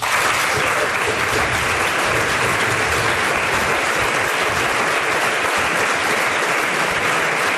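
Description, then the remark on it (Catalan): Sustained applause from half of the members in the Catalan Parliament chamber after Quim Torra is invested president of the Generalitat de Catalunya: a dense, steady wash of clapping hands that stays loud and even throughout, with no individual voices standing out. “Aplaudeix la meitat de l'hemicicle.”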